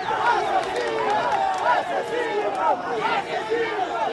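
protest crowd shouting

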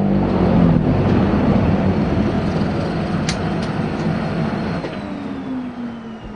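small propeller plane engine

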